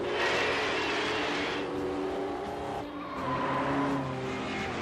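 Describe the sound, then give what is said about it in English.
Racing cars roar past in a loud, continuous rush as car number 37, driven by Enzio Bodoni, pulls ahead of the pack into the lead, engine whines sweeping up and down in pitch as a couple of cars go by, with a hint of tire squeal. “And now, Enzio pulls ahead of the pack, deftly weaving his way into the lead.”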